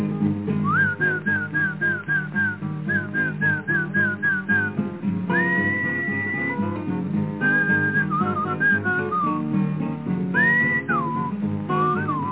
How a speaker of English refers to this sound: I called him and called him. He didn't seem to pay me no attention. I thought about what Papa said. You was a horse. I must whistle for you. Something like this.